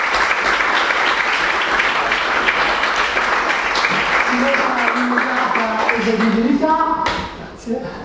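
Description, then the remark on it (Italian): Sustained, dense applause from an audience after a council votes in its new council president, loud and steady for several seconds. Voices rise through it toward the end before the clapping tapers off. “Un applauso.”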